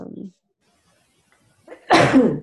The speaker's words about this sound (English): Bless you